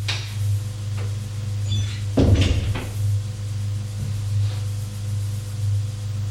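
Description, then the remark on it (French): A servant knocks on a door off a marble entrance hall and enters: the door opens with a brief clattering burst of wood and handle noise, followed by a few softer knocks, all over a steady low electrical hum with no voices. “Frappe à une porte et entre.”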